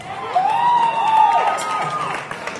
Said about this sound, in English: I'm uncomfortable being up here. I'm uncomfortable with the applause because, quite frankly, I don't deserve them.